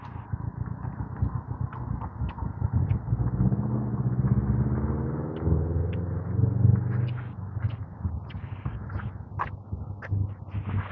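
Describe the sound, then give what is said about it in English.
A car passes by on the street, its low engine rumble swelling to a peak mid-clip and then easing away, with a few faint ticks and clicks around it. “Oh, no, it's a different car.”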